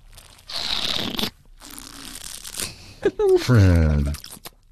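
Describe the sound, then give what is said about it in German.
Two airy, noisy slurps of a drink in quick succession while tasting it, followed by a short voiced murmur of appreciation. “Also, wir sind nicht unerzogen, sondern Schlürfen hilft, um die Aromatik besser auf die Geschmacksnerven zu kriegen.”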